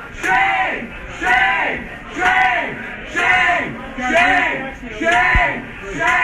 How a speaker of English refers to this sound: That's a bad optic to go to a Mexican restaurant. Did you have a chance to finish your fish tacos? They were yelling shame. Shame!